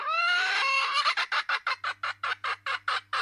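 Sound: chicken clucking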